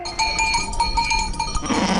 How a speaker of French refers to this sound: L'image est étonnante. Un troupeau de 65 moutons fait son entrée dans la cour de l'école primaire de Créon-Belledonne sous les cris des enfants.